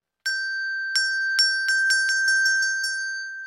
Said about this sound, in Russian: Позвонил медведь в колокольчик. Колокольчик и зазвенел.